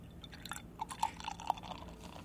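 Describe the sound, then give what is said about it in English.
A Belgian triple beer from Brewery Omegang pours straight down the middle into an untilted glass with a soft, steady fizz, broken by a few quick bubbly gurgles and pops. It is fairly quiet and there is no talking. “And we'll pour a little bit here.”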